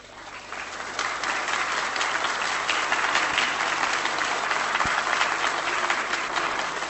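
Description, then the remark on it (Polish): Sustained applause from a large audience in the Polish Sejm (parliament) following Korwin-Mikke's speech, a dense wash of many hands clapping that swells in the first second and then holds steady and loud, with no one speaking over it. “Sądząc z oklasków, nie muszę tego uzasadniać.”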